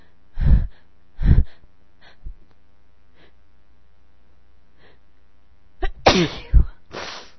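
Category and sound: human body sound, sneezing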